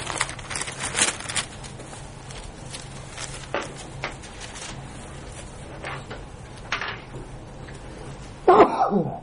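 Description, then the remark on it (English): A single sharp sneeze bursts out near the end, loud, after several seconds of faint shuffling and scattered background noise. “Bless you.”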